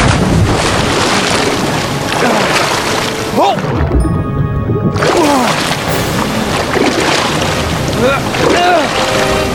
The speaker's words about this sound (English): It's Carrie English! Her wagon's going in the creek! God damn it, Fury! Do something!